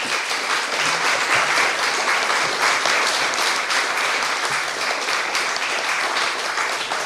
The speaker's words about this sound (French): Et je crois qu'il faut vraiment applaudir très fort les quatre intervenants.